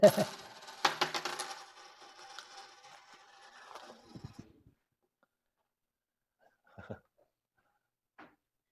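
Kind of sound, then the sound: household object, coins dropping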